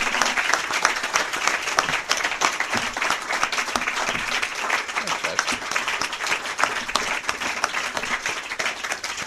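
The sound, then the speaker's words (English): A crowd applauds the candidates at the close of a 2nd District debate at an Omaha Press Club luncheon, a dense, even patter of many hands clapping at once with no voices rising above it. “A round of applause for our candidates, please.”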